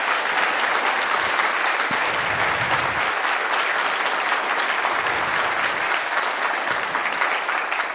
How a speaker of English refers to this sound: But in case we give like an extra thank you to Stee, who did the community support, who can't be here today and also yesterday. He did run all the Discord, like answered tons of messages. So one round of applause to Stee.